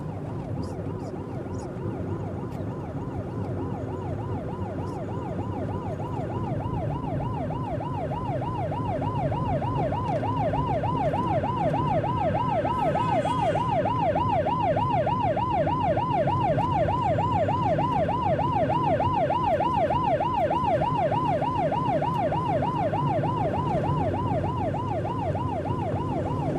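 A police car siren, from police coming up behind, wails in a fast, steady warble that grows a little louder as it approaches, with a low road rumble underneath and no one speaking.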